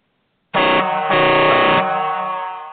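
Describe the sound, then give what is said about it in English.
A loud truck air horn sounds in two close blasts, a short one then a longer one, its harmonic-rich blare ringing out and trailing off slowly. No one speaks. “Hey, you think the air horn's gonna work?”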